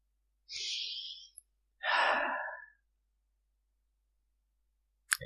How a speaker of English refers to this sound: I sit down, collapse on top of you, my head on your chest. I yawn, tired, exhausted, excited, and satisfied.